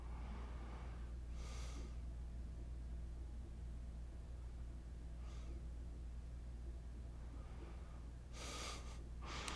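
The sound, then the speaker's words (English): Quiet, airy breaths of a person falling asleep, heard over a phone call through a steady low hum: a few slow inhales and exhales spaced apart, ending with two sharper breaths, faint with no one speaking. “I can hear your breathing.”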